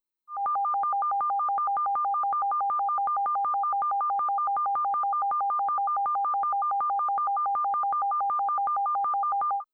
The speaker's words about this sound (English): Now let's listen comprehensively, concentrating on both tones at the same time.